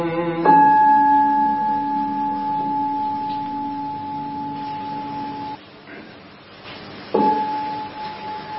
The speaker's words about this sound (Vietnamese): Lặng lòng nghe, lặng lòng nghe tiếng chuông huyền diệu đưa về nhất tâm.